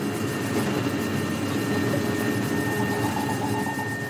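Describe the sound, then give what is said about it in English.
A deep, sustained electronic drone, the sonified tone of a very large piece of space junk passing overhead, hums steadily for the whole stretch, thick with low rumbling noise and a faint, thin high whine running above it. No one speaks. “And if a very big bit of junk passes overhead, then you hear a very kind of deep tone.”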